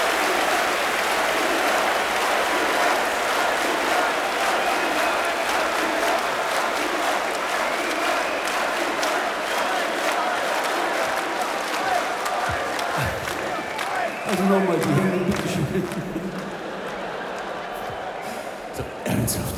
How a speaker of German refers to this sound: Klatschen wir die Hände zusammen und schreien alle ganz laut Blut. 1, 2, 3, 4!